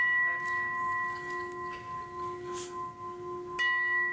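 A struck gong rings with a steady, sustained shimmering tone, then is struck again near the end, renewing the ring. It is fairly loud, with no talking over it.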